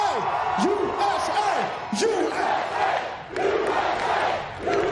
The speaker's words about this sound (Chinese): 喜剧家杰米·福克斯带领观众高喊“美国，美国，美国”。